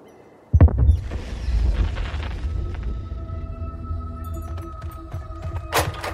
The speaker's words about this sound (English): Gunshots. I think up near the cell phone tower, up on the hill.